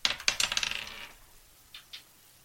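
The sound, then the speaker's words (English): Plastic 20-sided dice clatter across a hard tabletop in a quick burst of bright, rattling impacts that taper off, followed by two small separate clicks as they settle. Fairly loud, with no voices. “We're each going to roll 20-sided dice, see who gets to speak first on the podcast this week.”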